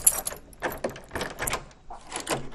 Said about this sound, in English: So go right ahead and pull the tall door handle. Well, welcome to the new Planetarium and Dome Theater.